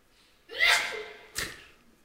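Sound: sneeze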